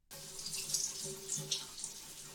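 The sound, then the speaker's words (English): A steady rush of shower water pours without a break, a bright hissing spray with slight splashy fluctuations and a faint low hum beneath, with no voices. “Standing there in the shower, and the wife didn't know what to think.”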